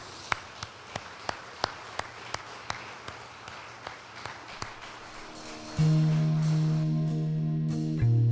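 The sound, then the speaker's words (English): Grace Place church audience applauding the Lord after a prayer, a steady, evenly spaced series of sharp claps for about five seconds, followed by a loud, sustained organ-like chord. “Shall we applaud the Lord?”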